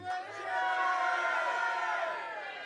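An audience shouts together in a loud, sustained group yell, many voices swelling at once and then tapering off, as if calling out a name in unison.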